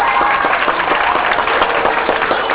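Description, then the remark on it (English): Sustained audience applause, a dense, loud wash of many hands clapping at once, holding steady for the whole stretch with no voices standing out. “Give them a round of applause, will you?”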